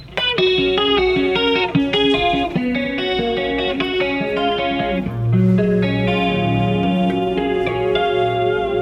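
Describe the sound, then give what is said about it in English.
A clean electric guitar, played with the distortion pedal off through a compressor pedal and a chorus pedal, plays a steady run of bright, rhythmic picked notes and chords with a shimmering chorus effect, fairly loud, with a lower sustained bass tone entering near the end. “So for example, if I'm playing one of our ballads with a clean sound, I'll turn my distortion pedal off, and I'll turn on a compressor pedal and a chorus pedal and.”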